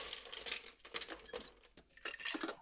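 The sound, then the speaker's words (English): Ice being chopped into crushed ice for a cocktail: a quick, irregular series of crisp, crunchy strikes with glassy crackling, fairly loud, with no talking. “Now that all your ingredients are in there, it's time to take some crushed ice. You can probably hear me chopping away here.”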